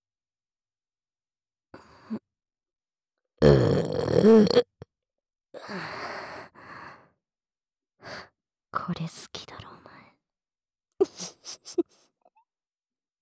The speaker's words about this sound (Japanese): 女の子のドスケベエロゲップ。突然耳元にくらってどう？びっくりしちゃいました？